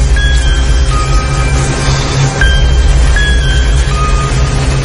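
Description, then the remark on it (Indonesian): A loud motorcycle engine roars steadily as the motorcycle rides alongside a car, its deep rumble continuous throughout, with faint thin whining tones flickering above it now and then. No voices. “Suara bising motornya terdengar memekik telingaku.”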